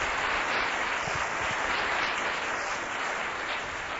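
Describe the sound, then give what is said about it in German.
An audience gives a warm welcoming applause to a woman, clapping steadily for several seconds, a dense, even wash of many hands at a constant loudness, with no voices over it. “dass wir auch Sie mit einem herzlichen Applaus begrüßen.”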